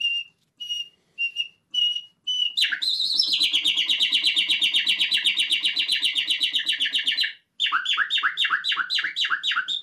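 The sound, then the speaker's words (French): A common nightingale sings alone: a few pure piping whistles, then a long, loud rapid trill, and finally a quick series of sharp descending notes. “Il y a un chant qui est pour nous, en tout cas pour moi, on l'utilise en tout cas dans nos spectacles, qui est le chant merveilleux de l'oiseau qui a inspiré poète et musique, qui est le rossignol Philomèle.”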